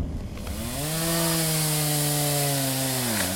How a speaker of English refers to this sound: Sounds of chainsaws and machetes, not from loggers, but our drivers. A storm brought massive wind toppling trees and huge rain all at once, which is unusual.